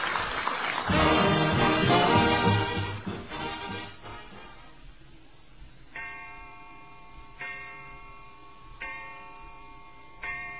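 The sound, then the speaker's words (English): A clock chimes for dinner time in a Kraft Dinner commercial: a loud, bright cluster of ringing tones, then four evenly spaced, sustained chime strikes that ring out and fade, with faint ticking underneath. “Great heavens, there's the chime.”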